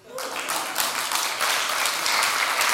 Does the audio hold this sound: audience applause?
yes